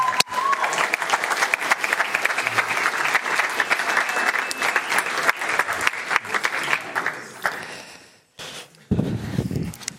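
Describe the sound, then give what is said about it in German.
A crowd applauds loudly for a volunteer called up to the front, with dense, continuous clapping for about eight seconds, then it breaks off briefly and a short burst of clapping and voices returns at the end. “Einen dicken Applaus für Miron, du darfst mal vorkommen.”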